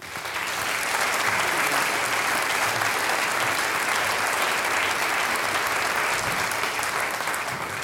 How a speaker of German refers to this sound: danke, dass du heute für uns auch solistisch bist, kriegst noch einmal einen Applaus.